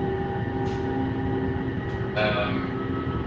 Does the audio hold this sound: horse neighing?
no